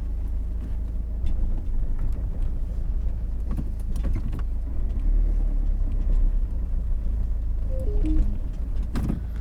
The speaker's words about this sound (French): Eh bien, je suis désolée, j'avais plus assez de points. Il y a ma voiture qui s'est arrêtée, du coup.